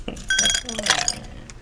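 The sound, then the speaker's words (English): Glasses clink together several times as lemonade is served, each tap leaving a short bright ring, with soft voices in the background. “Here's a glass”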